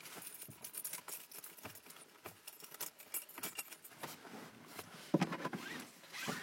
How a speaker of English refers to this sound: Put these keys here.